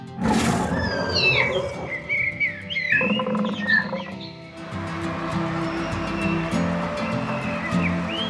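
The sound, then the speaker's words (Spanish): Deep, rumbling tiger roars fill a dense wild soundscape, layered with scattered bird chirps and a steady surf-like wash throughout; no one speaks. “Y los tigres, todos con las mismas rayas que sus padres.”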